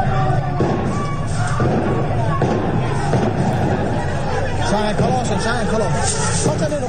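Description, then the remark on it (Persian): Gunfire crackles amid a street protest in the town of Abdanan, where security forces are present and citizens burn tires in the streets, with several sharp reports over a dense, continuous roar of crowd noise and shouting voices throughout. “در برخی از ویدیوهای منتشر شده صدای تیراندازی نیز به گوش می‌رسد.”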